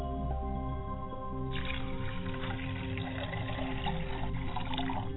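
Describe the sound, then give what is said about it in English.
Liquid is poured out as a libation to a father's spirit in a steady, continuous stream that begins partway through, a soft splashing trickle over a low, sustained humming drone, with no talking. “As I pour libations to my father spirit.”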